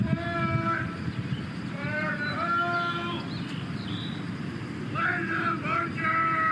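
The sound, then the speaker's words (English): Birds chirp and twitter in repeated bursts over a steady low rumble of outdoor background noise that continues throughout. “Hear birds in the beginning of this clip.”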